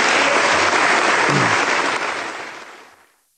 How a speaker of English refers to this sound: Those applause, that was a standing O, and the applause went on for a long time and became cheers and all this stuff.